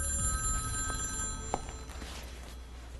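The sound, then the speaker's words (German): A telephone rings with a steady electronic trill, fairly quiet and continuous over a low background hum, with a few small clicks near the end and no talking. “nun endlich wollte sich Nordan schlafen legen, als das Telefon klingelte.”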